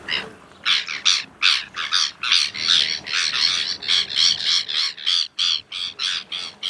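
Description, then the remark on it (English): A migratory bird with a black hood, red eye ring and yellow-tipped black bill, which migrates from Canadian Arctic colonies to the Southern Hemisphere, gives a long, rapid series of harsh, raucous squawking calls, about two or three per second, loud, with no talking. “Okay, so first things first, what do these birds look like? Well, they're really striking birds.”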